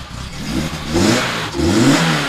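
The fully rebuilt engine of a 1986 slalom race car revs hard twice in quick succession, the pitch climbing and falling with each loud burst of throttle, with no voices.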